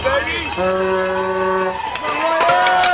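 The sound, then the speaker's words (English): A loud, dense crowd of hundreds of spectators, some in costumes, shouts and cheers the riders on at the Louisville Derby City Cup cyclocross race in Louisville, with one long sustained yell or horn-like tone holding steady for about a second amid the clamour, and scattered clanking in the mix. “Hundreds of people, some in costumes, packed onto the course to cheer the riders on.”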